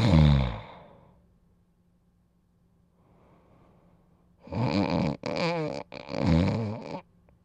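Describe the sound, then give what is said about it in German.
Loud snoring: one short rasping snore at the start, then after a quiet pause a long, rattling snore broken into several harsh, vibrating bursts. “Es nervt, wenn man daneben liegt und nicht schlafen kann, weil deiner sägt und rasselt, schnarchelt und schnaubt.”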